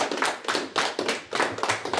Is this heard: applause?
yes